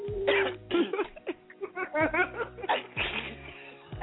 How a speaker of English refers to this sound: y'all sneezing?